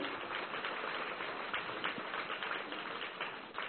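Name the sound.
audience applause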